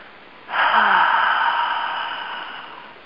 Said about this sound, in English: And take three of those circular breaths. Make them really audible. I'm breathing in. And as I breathe out, I'm going to breathe out onto my new little seedling.